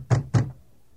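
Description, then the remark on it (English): Two firm knocks on a door by guards in quick succession, fairly loud, each a dull thud with a short decay, followed by quiet. “please open the door.”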